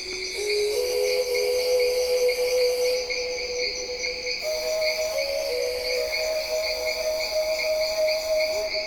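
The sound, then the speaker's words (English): Dense Amazon rainforest ambience recorded at Kilometer 41, a research station north of Manaus, with a steady wall of high, shrill insect trilling in several layers, plus a thin sustained tone that steps up in pitch partway through. No voices. “it begins with sounds that I recorded in the Amazon at a place called Kilometer 41, which is a research station north of Manaus, which is kind of midway in the Amazon.”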